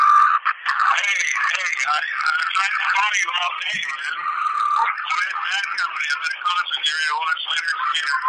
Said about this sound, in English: I can't hear you, son of a bitch. I can't hear you. The fucking radio. You stupid asshole. How am I going to hear him with the radio going like that?